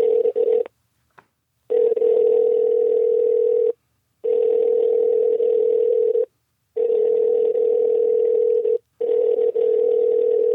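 A phone call placed to leave a prank voicemail rings out: a steady, buzzy mid-pitched ringback tone repeats in long two-second bursts separated by brief silences, five times over, with no one speaking.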